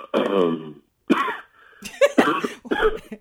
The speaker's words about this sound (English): I'm sorry. It's okay. That cough wasn't because of the question.